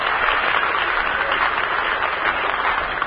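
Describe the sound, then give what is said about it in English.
A studio audience at the Hollywood home base applauds and cheers for Ashton, Nebraska, in a steady, dense wash of clapping that holds at a constant loudness for about three seconds, with no one speaking over it. “Let's send them a cheer from the Hollywood home base.”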